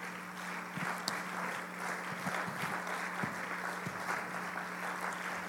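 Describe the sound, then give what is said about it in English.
An audience claps their hands to the Lord during a worship service, many hands blending into a dense, steady, continuous patter at moderate loudness, with no voices standing out. “Everybody clap your hands unto the Lord.”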